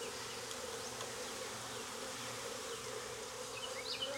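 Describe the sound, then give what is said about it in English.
A dense, steady drone of many honeybees buzzing together around an open hive as a beekeeper inspects its frames, continuous, with a few individual bees whirring past now and then. No one speaks. “There's plenty of bees in this hive.”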